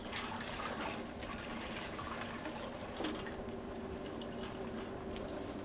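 Water runs steadily from a tap, a continuous rushing and splashing with a faint rising tone as something fills, with no one talking.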